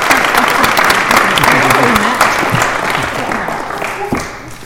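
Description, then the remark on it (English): A crowd at an AA meeting applauds steadily after a speaker's thanks, a dense rattle of many hands clapping at full volume, with some murmuring voices mixed in as the clapping slowly tapers toward the end. “I'm clapping for you.”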